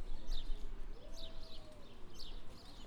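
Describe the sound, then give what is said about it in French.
Outdoors by a fountain in April, in pleasant mild weather, a few birds chirp in short bright bursts at regular intervals over a steady low background hum with a faint rising tone in the middle. “On entend les quelques oiseaux.”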